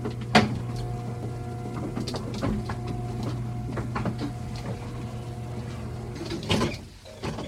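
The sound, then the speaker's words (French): An elevator descends three floors in a residential block at Les Pétrelles. Its steady motor hum runs throughout, with a sharp mechanical clunk at the start, scattered rattles, and a louder door-like thump and slide near the end. No voices. “Je descends avec l'ascenseur 3 étages.”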